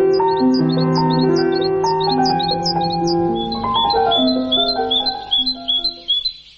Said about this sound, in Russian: «Птицы зимой». Записи Ирины Петерс.